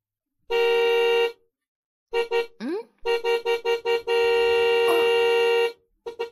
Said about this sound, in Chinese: 你爸好像在按喇叭，应该是你爸。他回来了吧？儿子， 儿子，快出去看一下，应该是你爸在按喇叭呢。